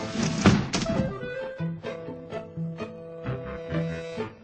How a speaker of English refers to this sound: First, she banged the window.